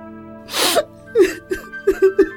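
A woman sobbing up close: a sharp, breathy gasp followed by a run of short, halting, voiced sobs in an uneven rhythm, with no words spoken.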